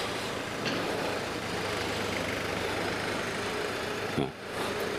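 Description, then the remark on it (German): A heavy tractor engine drones steadily, a low constant rumble filling the whole stretch with a brief clunk and dip near the end. “Nee, ich gehe da jetzt nicht lang. Nicht, solange da der Trecker da rumträgt.”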